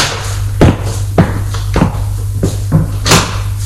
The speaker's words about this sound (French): On frappe à la porte.